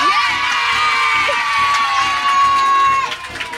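A group of sixth-grade schoolchildren cheer and shout together in a loud, sustained burst of excited voices, with high-pitched whoops rising above the crowd noise before it eases slightly at the end.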